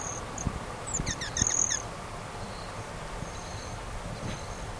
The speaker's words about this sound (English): There's at least one rot-tailed hummingbird, at least one male rufous hummingbird, and other females. That's the rufous. That's the broadtail. That's the broadtailed.